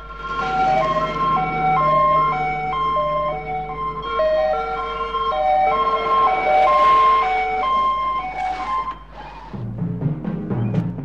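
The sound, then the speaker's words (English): Several overlapping sirens from two police cars and an ambulance wail and alternate in pitch as the vehicles head down a drive toward a house, loud and steady, with engine rumble underneath that thickens toward the end. “Two cop cars and an ambulance head down the drive towards the main house.”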